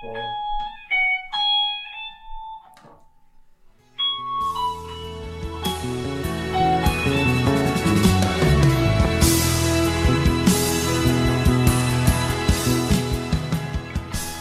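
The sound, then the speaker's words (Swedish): An electric guitar rings out through an amplifier, first a few sparse plucked notes with pauses, then a full, driven strummed passage that grows louder and denser, with no talking. “men om jag skulle plugga in den där fänden, skulle du kunna spela den för mig då?”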